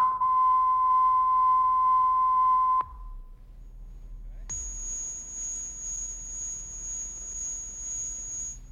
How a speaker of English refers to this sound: And I think now, out of curiosity, I put some test tones on the analog, the beginning of the analog recordings, just to see what they sound like after 20 generations.